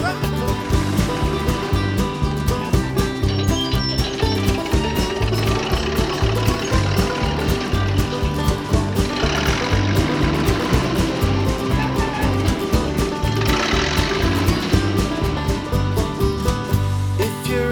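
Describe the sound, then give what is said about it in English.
A big diesel tractor engine chugs steadily, its heavy rhythmic knocking loud and continuous, with occasional bursts of higher hissing noise over the low throbbing idle. “They have great big engines, and this is what they sound like.”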